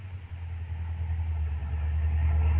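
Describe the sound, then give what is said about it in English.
A car engine rumbles steadily at low pitch, idling and then rising slightly as the car is eased forward and pulled a bit off the road to park on steep ground, with no voices. “Have to pull the car a bit off the road, though, to park.”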